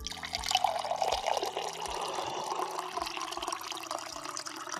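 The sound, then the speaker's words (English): Water pours steadily into a glass for a few seconds, a bright splashing trickle with gurgles at a fairly constant moderate level, and no one speaking. “Anyway, yeah, here's your water.”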